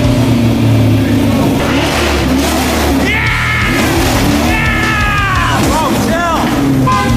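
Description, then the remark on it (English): A car horn sounds in loud, steady bursts over a running engine, with voices and shouting mixed in amid the noisy commotion. “The car works great and the horn works.”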